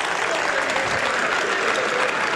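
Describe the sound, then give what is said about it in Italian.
Steady, dense applause from an audience at an anti-racism demonstration, welcoming Tuscany Region president Enrico Rossi and Florence mayor Dario Nardella onto the stage; many hands clapping together in a continuous wash of sound with no pauses and no talking over it. “E adesso con un applauso invitiamo sul palco il presidente della Regione Toscana Enrico Rossi e il sindaco di Firenze Dario Nardella.”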